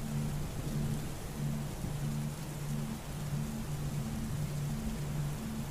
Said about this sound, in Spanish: Sus truenos nos sacan del silencio.